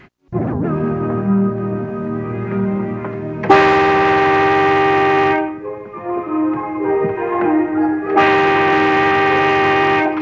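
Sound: car horn honking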